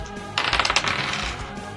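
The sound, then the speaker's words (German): A short burst of dice rattling and clattering across a table, rolled for a melee attack with an axe, a quick flurry of hard clicks that settles within about half a second, fairly loud, with no talking. “Würfel auf Nahkampf, bitte.”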